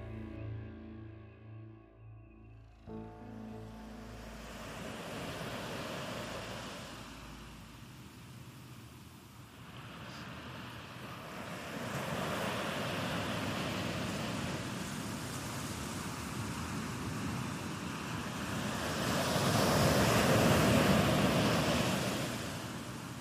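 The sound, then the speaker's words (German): Broad, steady roar of sea surf and gusting wind by a pier at sunset, swelling and easing in long waves and growing louder toward the end, with no voices. “Die Abendröte ergießt sich über den Horizont, während die Sonne langsam im Meer versinkt.”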